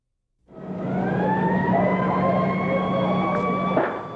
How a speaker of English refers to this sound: This is an eerie situation. The sirens have not stopped screaming since we arrived on the university campus. If nine persons have already been brought into Brackenridge Hospital, then more must be on their way because these ambulances are running